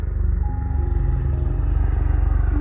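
A helicopter flying overhead: its rotor beats in a fast, steady low thumping that holds at an even loudness throughout, with a droning engine hum layered underneath and no voices.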